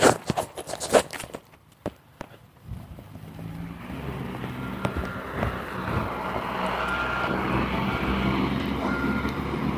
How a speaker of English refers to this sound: Cement truck coming.